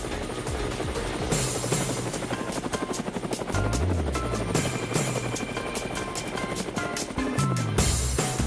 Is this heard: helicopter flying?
yes